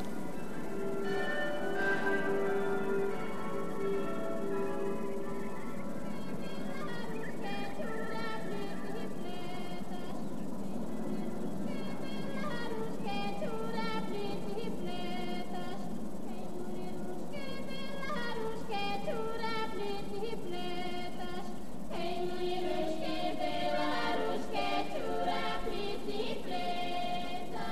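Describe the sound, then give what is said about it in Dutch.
Church bells peal continuously on Easter night, their overlapping ringing tones blending into a dense, shimmering wash that swells with fresh strikes every few seconds, with no voices heard. “Hoor je de klokken? Paasnacht.”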